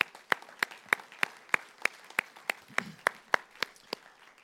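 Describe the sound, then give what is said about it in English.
A church audience applauds in praise to God with sharp, evenly spaced claps that land in a steady rhythm of about three per second and fade slightly toward the end. No one speaks over it. “We just give a round of applause and praise to God.”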